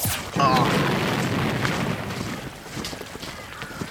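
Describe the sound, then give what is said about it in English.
A single loud cannon boom from an artillery battery firing on an advancing rebel army erupts near the start, followed by a long rumbling roar that slowly fades over several seconds, with no voices. “he could not stand to watch the carnage of the cannon fire on those unfortunate men”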